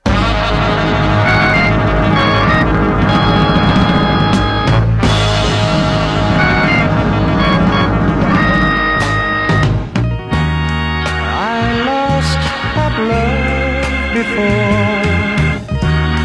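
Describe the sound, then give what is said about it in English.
A song plays steadily over a radio, briefly breaking into a short burst of noise midway as the dial is turned, before the same song returns and comes in cleaner as the dial settles on the station's FM signal. “And then I'll turn the dial again and you'll hear me tune in to the very same song on the station's FM signal.”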